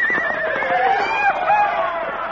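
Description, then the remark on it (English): A bucking horse neighs in a long, shrill whinny with wavering, descending pitch, loud and sustained for a couple of seconds, with a faint rumble of activity beneath, as a rider tries to stay on it. “Look at that horse.”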